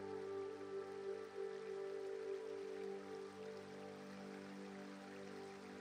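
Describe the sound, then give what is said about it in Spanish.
A river flows in a steady, continuous rush of water with no breaks, and a soft sustained tonal drone hums beneath it, heard along a trail out in nature. Nobody speaks. “Y cuando estás trazando un nuevo sendero y cuando de nuevo vuelves a estar fundiéndote entre la naturaleza, descubres un bonito río.”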